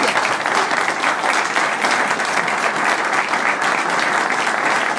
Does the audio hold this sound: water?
no